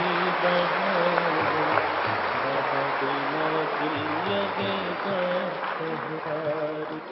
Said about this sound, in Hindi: सभी भाई बहने इस बात में खुश हैं, ताली बजाओ अच्छी तरह से।